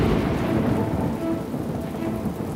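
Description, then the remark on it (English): A nighttime thunderstorm with heavy rain, about one inch in total, pouring down in a steady, dense roar, low thunder rumbling underneath throughout, loud with no voices. “That night, we got a 1-inch rain event.”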